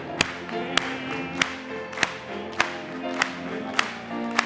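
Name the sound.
audience clapping hands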